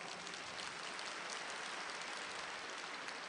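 Steady applause from an audience, a dense crackle of many hands clapping at an even level for several seconds, with no voices on top.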